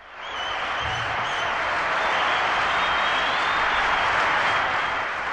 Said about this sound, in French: Merci, public en délire. Je sais que je suis bon. Je ne vous remercie pas pour vos applaudissements, car bien entendu, je les mérite.